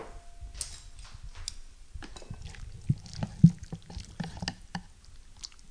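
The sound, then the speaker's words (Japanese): Thick soup is transferred onto a plate, with irregular clinks of a utensil against the dish and soft, wet plops scattered through several seconds. Nobody speaks. “さあ、じゃあこれを、味もですね、今食べた感じではもうかなり塩味もしっかりついてて大丈夫なので、このままお皿に移したいと思います。”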